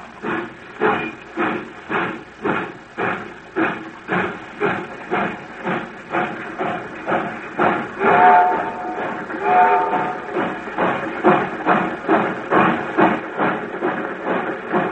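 A steam locomotive chuffs in a steady, rhythmic series of hissing puffs, growing slightly louder and denser as it pulls away, with a brief whistle-like tone partway through.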